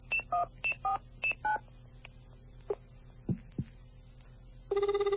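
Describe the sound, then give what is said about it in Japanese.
A real telephone, not mouth sounds, dials the Licca-chan telephone line: a quick series of about seven keypad dialing beeps, short evenly paced tones, followed by a few faint clicks and then a steady ringback tone starting at the end. “これ口じゃないよな、これ本当電話だな”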